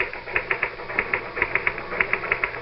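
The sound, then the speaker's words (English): Typing on a typewriter: quick bursts of sharp, bright key clacks in an uneven rhythm, with short pauses between runs of strokes and no voices. “All the time I was typing, I felt myself pulling back, trying to make my fingers stop.”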